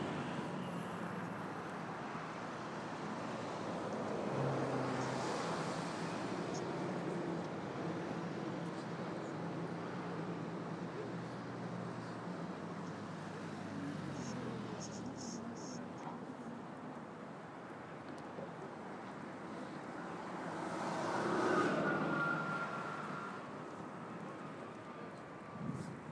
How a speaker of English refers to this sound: You can hear behind me the traffic on Waterloo Bridge.